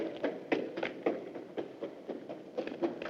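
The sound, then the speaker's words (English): A quick, steady series of about a dozen footfalls, like a man running away on a hard street surface in the dark, each step a sharp tap over a faint low rumble, with no voices. “He chases the sound of the footsteps.”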